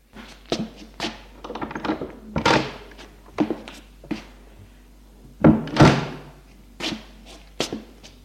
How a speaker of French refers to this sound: face de cette chambre se trouvent deux portes. La première, c'est la mienne. Ma reine l'ouvre et entre.